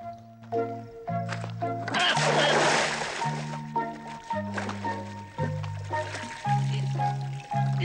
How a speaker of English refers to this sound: Having misjudged the length of the rope, he lands straight into the water.